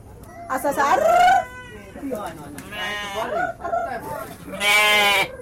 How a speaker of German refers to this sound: Die Insel ist kaum größer als ein Marktplatz. Nebst den Frauen drängen sich hier ein paar Kühe, Ziegen und Hühner auf dem kleinen Flecken Land.